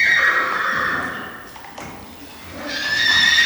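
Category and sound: animal, horse neighing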